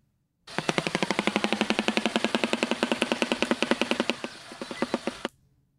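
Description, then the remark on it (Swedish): A shoebill, a large African bird related to pelicans, clatters its bill in a fast, steady, machine-gun-like burst of hollow wooden knocks, lasting about five seconds before slowing into a few separate raps and stopping. “Det är faktiskt en fågel som kallas för träskonöbb.”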